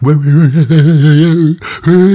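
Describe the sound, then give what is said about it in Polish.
A person imitates a dog's yawn: a long, wavering, whiny vocal tone, a brief breathy intake of air, then another drawn-out voiced sound. “Jest, uwielbiam jak patrzeć, jak koty ziewają. Nie, to jest prawda. Ale ja wolę jak psy.”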